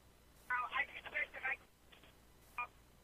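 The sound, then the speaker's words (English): A rapid run of telephone keypad dialing tones beeps through a phone line for about a second, then one more short tone follows after a pause, thin and band-limited over a faint background hiss. “Did someone pick up the phone?”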